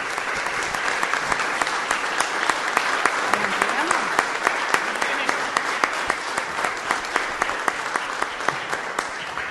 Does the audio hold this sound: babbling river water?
no